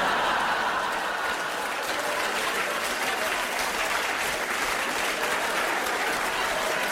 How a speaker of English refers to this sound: Give me a cheer if you're diabetic. There he is.